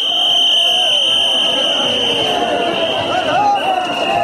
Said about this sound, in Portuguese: Avisos para que o banho santo seja rápido, para que se possam escoar os milhões de peregrinos hindus que a polícia empurra para fora da água ao som de apitos.